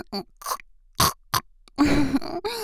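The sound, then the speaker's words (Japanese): A person imitates a pig, making several short, snorting grunts followed by a longer, rough nasal grunt. The voice is fairly loud, with brief pauses between sounds. “ほら、豚の真似だよ。こうしてやるの。”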